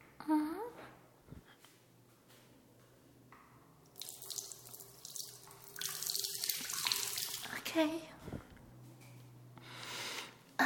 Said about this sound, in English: I guess the water's running. Sometimes the water's not running and it's annoying, but today you guys got to hear.